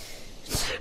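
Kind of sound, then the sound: human body sound, sneeze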